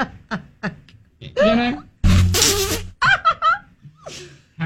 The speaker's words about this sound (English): Now, right now, I have a small but growing collection of animal fart noises. Gorilla, deer, and dog. All I have. So. It's tiny but violent.